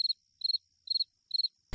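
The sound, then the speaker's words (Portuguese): Crickets chirp in four quick, evenly spaced bursts of high, pulsing trills, clear against silence, ending with a brief burst of noise. “Saem 10 grilos da verde alface.”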